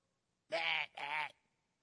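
A goat bleats once, a nasal cry broken into two quick wavering pulses, with nothing else around it.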